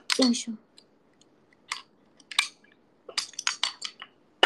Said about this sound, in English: Oops, that's my bottle water if you can hear.